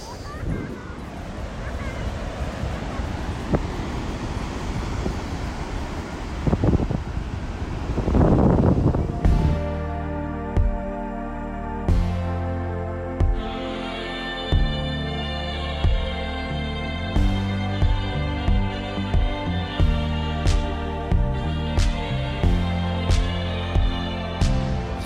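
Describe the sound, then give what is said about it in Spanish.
Rushing sea surf with a wind-like hiss swells for about eight seconds, then gives way to music with a steady beat and bright layered tones. “Les voy a dejar el ruido del mar y me despido.”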